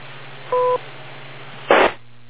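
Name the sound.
beep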